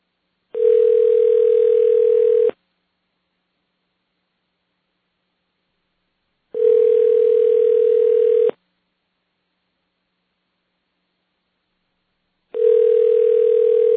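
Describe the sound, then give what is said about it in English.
A Japanese telephone ringing tone, heard when calling a real Japanese phone number: three steady, mid-pitched buzzing beeps, each about two seconds long, separated by four-second silences, with a faint hiss and no voices. “Are you calling a real Japanese phone number?”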